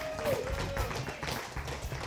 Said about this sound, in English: Come on, let's give Jesus the best hand clap you can.